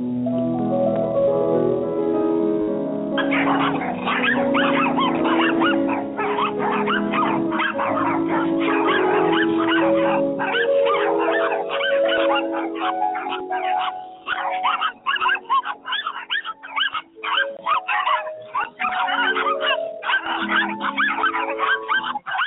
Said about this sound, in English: All right, folks, that's a little Claude Debussy and tons of crazy barking chihuahuas.